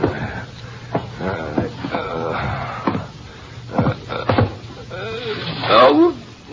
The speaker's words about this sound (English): and the door of the apartment is stealthily opened and a man enters.